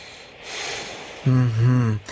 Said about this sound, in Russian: Все-таки я выслушаю вас. Нет, нет, нет, не надо снимать сюртук. У меня очень чуткие уши. Так, вздохните. Вздохните глубоко.